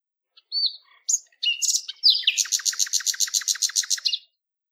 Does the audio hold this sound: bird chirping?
yes